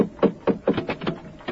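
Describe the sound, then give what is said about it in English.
Mr. Hutchings, come for Tallman, pounds on Mrs. Candle's door with a rapid, uneven series of about seven firm knocks, with no voices over them. “Candle, answer your door.”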